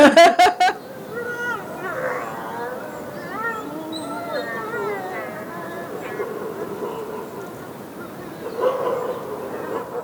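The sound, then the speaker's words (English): A few sharp barks at the start give way to excited wolves, leaning shoulder to shoulder, whining and moaning in wavering, warbling tones, several voices overlapping at steady volume throughout. “and they would lean against each other, shoulder to shoulder, and they would vocalize in a way that, you know, we called it their Chewbacca language from Star Wars.”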